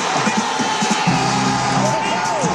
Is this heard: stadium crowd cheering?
yes